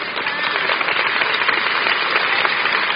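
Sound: audience hand clapping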